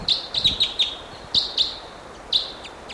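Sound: wild bird calls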